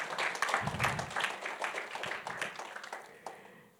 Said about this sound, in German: Genau, könnt ihr gerne mal einen Applaus geben.